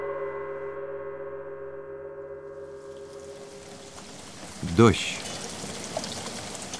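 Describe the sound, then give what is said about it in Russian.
Steady rain hisses in, rising out of a low sustained tonal drone and then filling the background evenly, with one brief louder knock or splash partway through. “Сидя у пюпитра, Матео Колон смотрел, как за крохотным окошком над узким изголовьем его кровати сеет дождь.”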